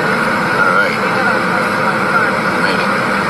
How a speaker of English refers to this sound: Yeah, we're braking hard now. That's the way planes stop on a runway. They brake hard.